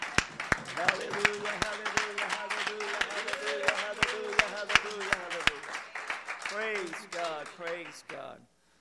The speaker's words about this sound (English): Clap your hands to the Lord as you're seated.